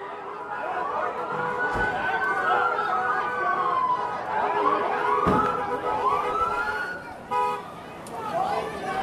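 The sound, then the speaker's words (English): Several emergency sirens from a state police military van and car and ambulances arriving on Water Street wail and yelp over one another, rising and falling in overlapping sweeps, with crowd chatter and street noise underneath and a short horn toot near the end. “After about 10 minutes, the first signs of help arrived on the scene. A state police military van and car, and ambulances on Water Street.”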